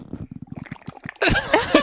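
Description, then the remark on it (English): A person drinking water: a quick run of wet, bubbling gulps and swallows, then a louder burst of gurgling, sloshing water noise at the end. “This is me drinking water, everybody.”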